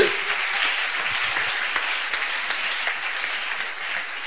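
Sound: audience clapping hands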